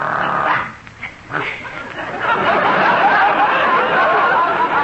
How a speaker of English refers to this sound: And this is Daisy, my favorite dog. She goes everywhere with me.